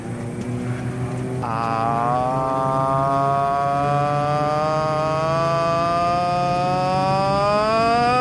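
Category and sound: vehicle, airplane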